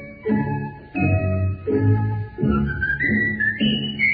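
A bright, clear whistled melody glides between several pitches over a steady, rhythmic instrumental accompaniment of repeated chords. No one speaks.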